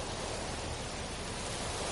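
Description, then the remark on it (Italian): A steady, hissing wash of ocean surf fills the whole stretch, continuous and fairly even in loudness, with no distinct individual wave crash and no voices. “Hai mai visto l'oceano?”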